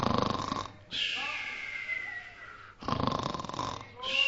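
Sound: speaker imitating snoring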